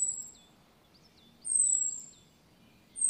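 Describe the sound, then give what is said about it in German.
A common blackbird's alarm call: thin, high, drawn-out whistles repeating about every second and a half, with softer short chirps between them, clear, with no voices. “Von einer Amsel hört sich der Alarmruf so an.”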